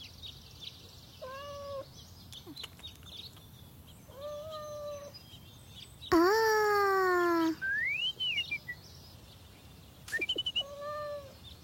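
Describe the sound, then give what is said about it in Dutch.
A cat stuck up a tree in a park meows repeatedly: several short, plaintive meows, then one loud, long drawn-out cry in the middle, followed by another brief meow near the end, with no talking. “Daar zit de poes in de boom.”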